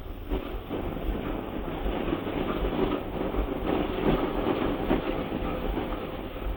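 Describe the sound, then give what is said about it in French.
A work train's locomotive hauls flatcars loaded with ballast along underground tracks, recorded aboard the locomotive. It rumbles steadily and loudly, with a continuous low-frequency roar and rhythmic wheel clatter on the rails, no voices. “Derrière la motrice sur laquelle nous nous trouvons, il y a donc des plateformes chargées de ballast.”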